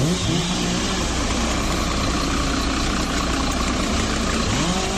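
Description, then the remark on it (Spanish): Chainsaws run at night as members of the GES de Muros cut and remove fallen trees from roads in the municipality of Muros. The engines make a steady, loud drone with a whine that rises and falls as the motors rev. The sound is continuous throughout, with no talking. “Es el sonido de las motosierras que en plena noche estaban usando los miembros del GES de Muros para retirar árboles caídos sobre carreteras del concello muradano,”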